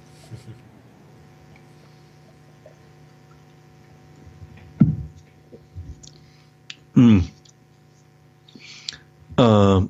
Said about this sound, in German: Und bei der Gelegenheit werde ich einen Schluck Wasser trinken.